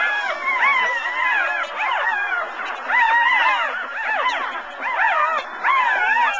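A chorus of puppies in a video whimpering and yipping continuously, many overlapping high-pitched cries rising and falling in quick bursts, fairly loud, with no talking.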